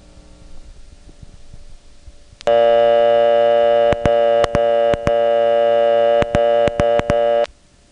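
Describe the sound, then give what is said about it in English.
After a couple of seconds of faint rustling, the loud, steady dial tone of a Northern Telecom Centurion payphone in a telephone booth, with no coin inserted, hums on for about five seconds, broken by a series of sharp clicks as touch-tone keys are pressed without working, then cuts off. “Dial tone comes on without putting a coin in, but you can't dial.”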